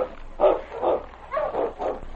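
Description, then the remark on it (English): A dog barks four times in a steady rhythm, each bark full, with brief pauses between them and no talking. “Sorry I lost my temper, but I don't like to see a dog mistreated.”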